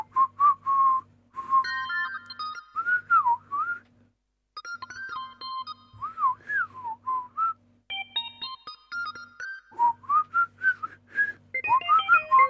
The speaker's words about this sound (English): So if you're playing along at home, whistle the last one together, okay?